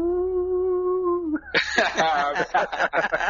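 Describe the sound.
A voice imitates a howl with a steady, sustained hooting note for over a second, then breaks off into lively laughter and chatter.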